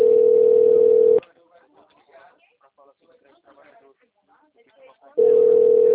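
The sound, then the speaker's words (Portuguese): A loud, steady telephone dial tone hums for about a second as a call is placed from a private phone, then cuts out to faint, muffled talking in Portuguese before the same flat tone returns at the end. “Oi, eu vou te chamar no meu telefone privado, tá?”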